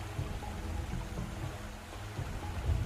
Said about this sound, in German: Du schaust auf den Bach, der weiter ruhig vor dir fließt.